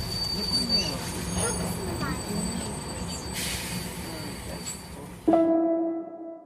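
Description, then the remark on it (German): A rumbling train rolls along with a steady low roar, then its wheels break into a loud, sustained metallic squeal on the rails near the end. “wir sind mit dem Zug zu ihm gefahren.”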